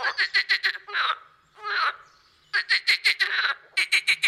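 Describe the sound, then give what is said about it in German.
Water frogs in a pond croak in loud bursts of rapid, chattering pulses, almost like cackling laughter, coming in three or four quick runs with short pauses between them. “Also auf jeden Fall Wasserfrösche.”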